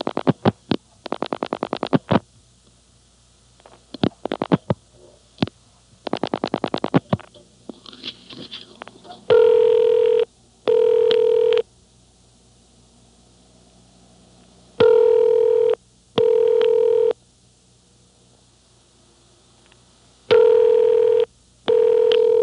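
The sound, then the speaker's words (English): A telephone number being dialed, including the digits 5 and 6, heard as several rapid bursts of sharp clicks, followed by a series of steady, evenly spaced double ringing tones with pauses between them. No one speaks. “Okay, now dial 5, 6. Four more digits.”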